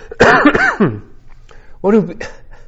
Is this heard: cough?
yes